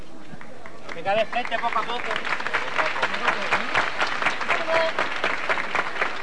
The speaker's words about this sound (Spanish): El silencio del momento roto por el aplauso de este público a esos costaleros tras la levantada todavía en la calle Luis Cocheros de este paso de la Virgen de Loreto.